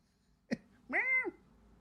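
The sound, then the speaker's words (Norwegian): A cat gives a single short, clear meow, rising then falling in pitch, moderately loud, preceded by a brief sharp snuffling burst, with no one talking. “Ja, jeg hører det. Og... Katten er enig.”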